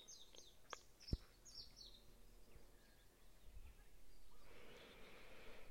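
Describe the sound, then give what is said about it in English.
Faint birds chirp at the Happy Heart Sanctuary on the Big Island of Hawaii, a quick run of high tweets clustered near the start. Quieter outdoor ambience follows, with a soft, steady hiss building toward the end. No one speaks. “coming to you from the Happy Heart Sanctuary on the Big Island of Hawaii, with one of the little, can you hear? Birds singing in the background, just saying yes to everything we've spoken here.”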